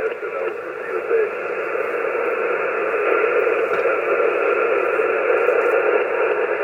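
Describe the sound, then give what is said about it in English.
A shortwave radio signal sinks into steady, band-limited static, a muffled voice barely surfacing through the hiss before being swallowed by constant noise. “Ooh, he just dipped into the noise there.”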